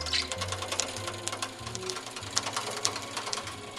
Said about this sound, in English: This is a National sewing machine. It's a Smythe-style sewing machine. All properly sewn, machine-sewn books are referred to as Smythe-sewn. It looks like a giant weaving loom with 5 large spools of thread at the top attached to 8 hooks and needles